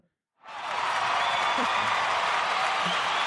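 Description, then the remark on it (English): A burst of loud, dense applause starts abruptly after a brief silence and holds steady, with faint cheering mixed into the crowd noise. “As opposed to a joke being met with laughter, it's met with rapturous applause.”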